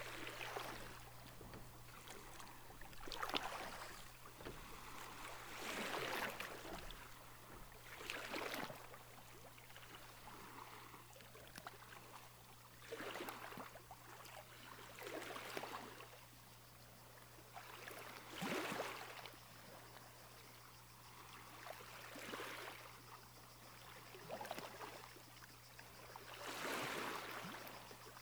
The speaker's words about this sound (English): And before long, reach the shore of the island, where the translucent blue sea gently laps on a crescent beach.